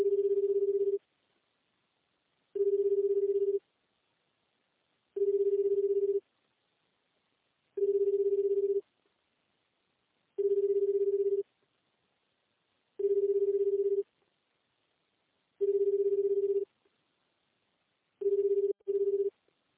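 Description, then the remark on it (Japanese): A steady, low telephone ringback tone on a call to a Japanese number that goes unanswered repeats about eight times, each one-second burst followed by a short pause, then ends with two quick clipped bursts. No voices. “呼び出しましたが、近くにおりません。”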